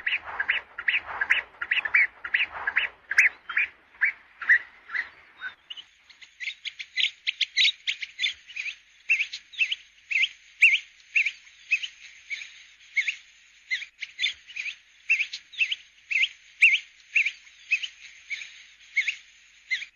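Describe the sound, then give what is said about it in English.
African pygmy goose calls from birds on small lily-covered pans at St. Lucia: a rapid series of soft, whistled notes repeating steadily for the whole stretch, with a thin high overtone joining partway through, clear, no voices. “Today's bird call was the African pygmy goose.”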